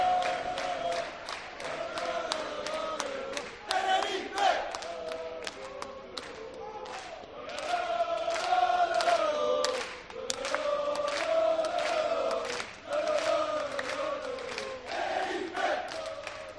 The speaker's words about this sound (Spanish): Así suena la afición del Club Deportivo Tenerife en los aledaños del Rodríguez López